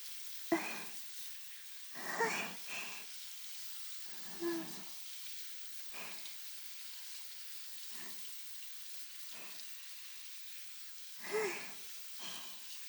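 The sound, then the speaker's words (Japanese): A steady, soft hiss of shower spray runs throughout, broken by about eight fuller splashing bursts as soap foam is rinsed off the hands and from between the fingers. No one speaks. “はい、次は手の泡を流しますよ。指の間も泡が残らないように。”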